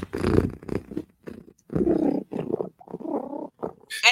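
Loud cat purring in a series of rough rumbling bursts separated by brief pauses, with a sharp higher-pitched noise right at the end.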